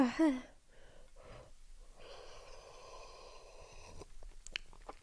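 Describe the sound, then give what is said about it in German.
An airy slurping sip of freshly made, still very hot tea, drawn in cautiously over a couple of seconds, framed by sharp breaths and a few small mouth clicks. “Oh Gott, ich habe mir einen Tee gemacht. Es ist so heiß noch.”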